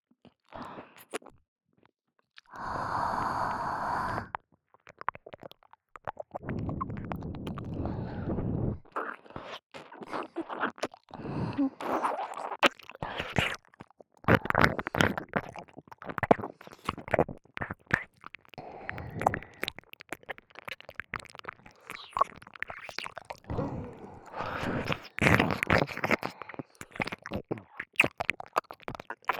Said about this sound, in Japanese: お耳に熱い吐息を吐くと、お耳がゾクゾクしますよね。